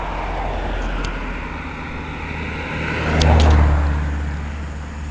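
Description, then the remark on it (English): City bus engine rumble and traffic noise as the 17 bus is boarded at the CAW Hall, swelling louder for a moment as a heavy vehicle passes, with a couple of brief high squeaks, then settling back to a constant drone. “getting on the 17 bus now at the CAW Hall.”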